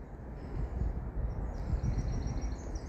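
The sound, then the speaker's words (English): Birds singing softly by a lake at Silty Shallows, where a lone angler is fishing, thin high chirping phrases rising over a steady low rumble of wind and outdoor noise, with no voices. “All them beautiful birds out there.”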